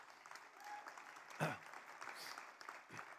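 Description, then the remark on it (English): Steady audience applause fills the moment, a dense wash of many hands clapping at once, with one louder burst standing out midway before the clapping continues evenly. “I'm clapping for you.”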